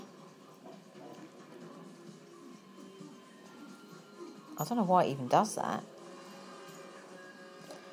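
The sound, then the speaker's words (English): A new washing machine runs steadily in the background, a low mechanical hum under a person talking, with a brief, louder burst of yelping from a dog around the middle. “He started barking at that last year when we moved back in and we got the new washing machine.”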